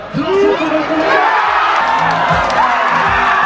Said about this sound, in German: Ja, 1-0 Deutschland und alle rasten hier aus, die jubeln, tanzen, die singen.